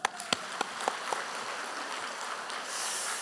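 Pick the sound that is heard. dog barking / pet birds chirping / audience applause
audience applause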